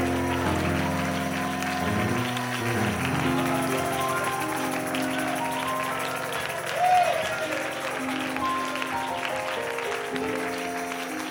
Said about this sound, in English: Come on, let's just clap our hands and let's lift our voices. Can we do that for a second?